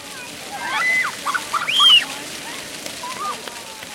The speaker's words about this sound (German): Das Wasserspiel auf dem Platz sieht genau gleich aus wie das in Bern.